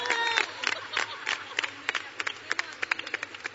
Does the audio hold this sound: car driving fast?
no